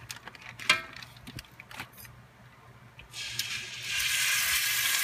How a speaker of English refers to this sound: And this is what I like to hear, the sear, because this is going to help lock all the juices in there and make it really nice and tender.